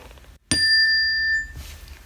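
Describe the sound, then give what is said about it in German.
A single doorbell chime rings out sharply after a brief silence, its bright metallic tone ringing clearly for about a second before fading into quiet. “Es läutet an der Tür.”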